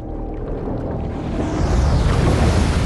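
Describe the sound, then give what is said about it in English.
A massive ocean wave crashes down and churns, a dense roaring wash of water that builds louder through the second half, with steady wind-like rumble and no voices. “With her head above water, she glances around and sees a massive wave crashing down in front of her.”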